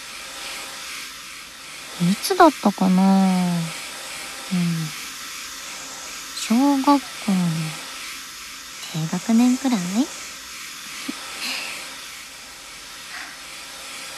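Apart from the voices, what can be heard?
hair dryer blowing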